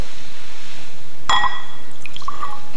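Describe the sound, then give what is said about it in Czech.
A wooden toothpick drops into water with a single crisp plink and a short ringing splash, followed by a few faint drips and soft ripples. “A proč plave na vodě takové párátko? Co si myslíte, proč plave na vodě? Proč se nepotopí?”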